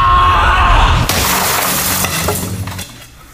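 A loud crash of glass shattering as a car is smashed, at about one second, followed by a long spill of tinkling, scattering shards that gradually fade out.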